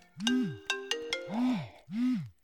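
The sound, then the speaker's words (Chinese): A phone ringtone plays an incoming-call melody: bright electronic plucks followed by swooping chirp tones, loud, with no voices. “这个时候，谁这么讨厌打电话过来？”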